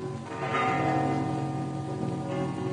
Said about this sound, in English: Actually, I like church bells. All very well. But on one's honeymoon, they distract the attention. Not mine.